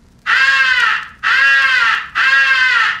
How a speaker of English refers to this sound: The highball crow call is sometimes advocated for attracting the attention of distant crows. Do not use this call.